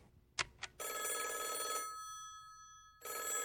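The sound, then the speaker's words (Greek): A telephone rings in two long bursts of bright, trilling bell tone separated by a short pause, preceded by a couple of quick clicks; clear with no talking. “την πήρα τηλέφωνο να της το πω.”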